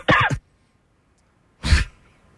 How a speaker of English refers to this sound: I was coughing.